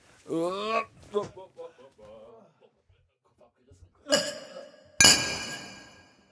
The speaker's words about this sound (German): Gut, dann lass uns doch mal anstoßen.